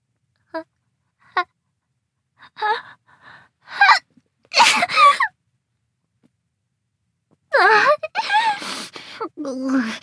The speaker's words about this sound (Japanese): なんでそんなに嬉しそうにしてるんですか？くしゃみが嬉しいんですか？顔にくしゃみかけられるのがですか？